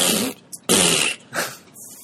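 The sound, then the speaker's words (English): A person blows a series of wet, raspy fart noises with the mouth, three longer bursts and a short blip, loud, with no talking. “That's your fart sound?”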